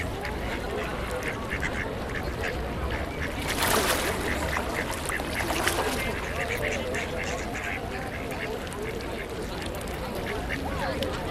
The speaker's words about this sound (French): Mais les canards s'en moquent, et ils ont leur raison.